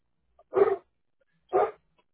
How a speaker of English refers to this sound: I'm sorry, hang on a second. My dog started barking. He's loud.